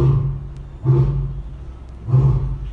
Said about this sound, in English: Do you hear that? We are here with McKinney. He is our male lion.